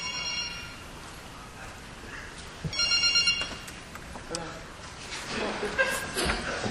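A mobile phone rings with a bright electronic ringtone in two short bursts, while people murmur and chuckle in the background.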